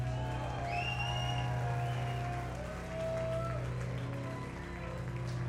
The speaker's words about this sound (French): Je vous remercie de les applaudir très fort, s'il vous plaît.